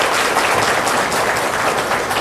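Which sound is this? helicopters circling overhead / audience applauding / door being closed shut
audience applauding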